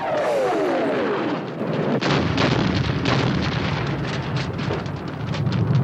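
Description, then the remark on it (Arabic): A falling whistle opens onto a loud, continuous rumbling roar, broken by rapid, irregular bursts of gunfire and heavy booming explosions from the direction of Baghdad airport that keep going throughout, with no voices. “ها يا لطيف يا لطيف، شو هالاصوات يا لطيف، شنو هذا انفجارات ورشقات ناريه؟”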